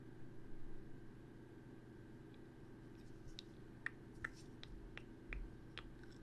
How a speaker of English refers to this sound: Sorry, it's a habit to bite my pencil.